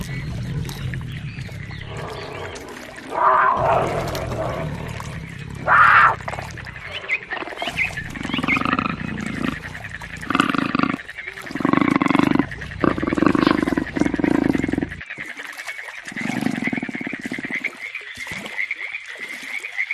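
A big cat roars and growls in a series of deep, rasping bursts, loud, with short pauses between calls and no talking.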